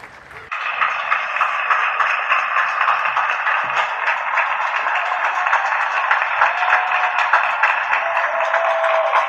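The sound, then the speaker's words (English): Sustained applause from many residents clapping on their balconies in the Belgrano district of Buenos Aires, Argentina, at 9 pm during lockdown, honouring doctors and nurses fighting coronavirus; a dense, steady patter that starts abruptly and continues at an even, fairly loud level, with no talking. “Ogni sera, verso le 9, l'Argentina applaude dai balconi medici ed infermieri che lottano contro il coronavirus.”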